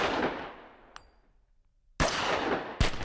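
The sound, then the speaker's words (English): Loud gunshots ring out in an uneven, syncopated flamenco rhythm within an opera: a sharp blast decays into a long echo, a small click follows, then two more cracks land close together. “It breaks into the sound of gunshots that repeat in a flamenco pattern, but also there's a kind of canto, which is one of the most kind of soulful and primal expressions of music and singing that you're going to hear”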